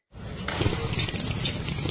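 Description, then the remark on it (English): A loud, wet slurp of a drink that keeps going for about two seconds as a steady, gurgling hiss of liquid, with no talking over it, during a live broadcast from Contigo Latin Kitchen at the Westin La Paloma Resort. “Why such a loud slurp, my friend?”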